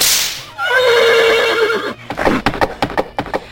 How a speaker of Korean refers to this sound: 그때 아니트라가 채찍을 휘두르며 말을 타고 달려나간다